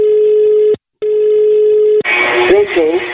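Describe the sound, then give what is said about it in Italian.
A steady telephone ringing tone on the line, for a prank call on Radio Toscana, plays in two long pulses with a short gap between them, then cuts off as a voice answers and starts talking. “Andiamo al telefono, vai ciccio.”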